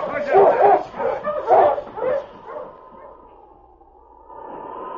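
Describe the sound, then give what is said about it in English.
A team of husky sled dogs, with King up front, barks and yips excitedly in quick, overlapping bursts, loud, as Sergeant Preston starts the sleds toward North End, before the yapping fades and a steady, whistling howl of wind takes over on a night with snow flurries. “On, you Husky!”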